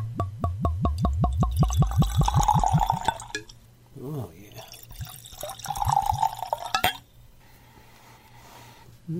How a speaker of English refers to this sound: Let's pour.